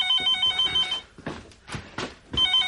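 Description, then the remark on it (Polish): A telephone rings in two bursts of bright, steady high-pitched tone, with a short clattering pause between them. The ringing is loud, and no one speaks. “A może to kto inny dzwoni?”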